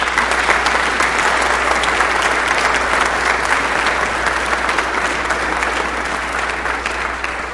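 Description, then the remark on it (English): An audience breaks into sustained, steady applause to thank those who teach the children about their faith, a dense wash of many hands clapping at an even loudness throughout, with no voices standing out. “So, congregation, join me with a big applause.”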